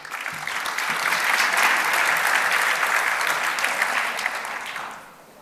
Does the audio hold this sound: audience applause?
yes